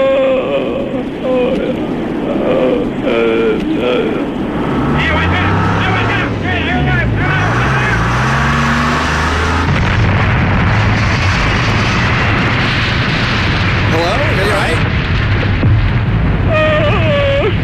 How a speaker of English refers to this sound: Car accident!